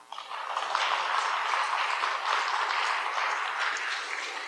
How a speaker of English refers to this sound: So before we open up to questions, go ahead, applaud.